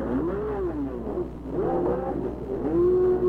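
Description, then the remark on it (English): A race car driven by A.J. Foyt revs hard and accelerates out of the pit lane back into the race, its pitch climbing and sweeping through several gear changes, loud with a steady low mechanical drone underneath. “And there goes Foyt on his way back into the race.”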